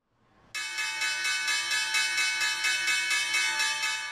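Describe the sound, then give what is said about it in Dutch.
A last-round bell rings out loudly, starting abruptly after a brief murmur and sustaining a bright, continuous metallic ring for several seconds without pause. “hier klinkt alweer de bel van de laatste ronde.”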